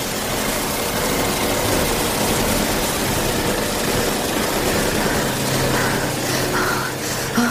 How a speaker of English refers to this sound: I'll turn on all your machines and fling the doors wide so that the uproar fills the whole prison, fills all England with its noise. Here's the canning switch.